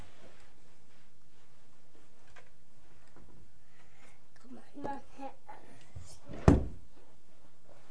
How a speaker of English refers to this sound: I started the door. Yeah, you shut the door.